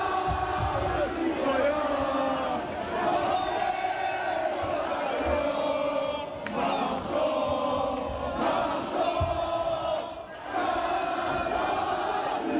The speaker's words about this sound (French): Donc ça, c'est la Marseillaise à la sortie d'un bar, un festival de klaxons et de pétards.